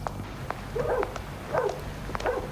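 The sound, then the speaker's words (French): Three dog barks in nearly deserted streets, evenly spaced about half a second apart, over a low rumbling background hum, with a few faint clicks between them. “On entend des chuchotements, des bruits bizarres, des chiens, des chats ou des rats, des pas.”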